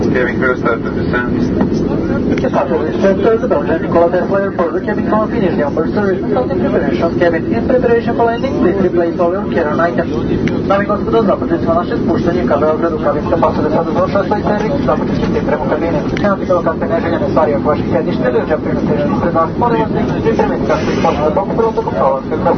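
A steady, loud drone of airliner engines fills the cabin without pause as the plane descends at night toward Belgrade, Serbia, with wing flaps lowered, a dense low roar that never lets up, with indistinct voices murmuring underneath.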